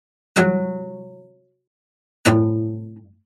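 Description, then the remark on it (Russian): Two loud Bartók (snap) pizzicato plucks about two seconds apart, the string pulled away with a finger and released with force so it strikes the fingerboard: each a sharp percussive crack of string against wood followed by a ringing pitched tone that fades over about a second. No voices. “ну, допустим, бартовские пиццикато с треском, когда струну оттягивают пальцем и силой отпускают, ну, получается большое натяжение, и помимо звука, непосредственно ноты, звучит еще такой удар жесткий струны о гриф.”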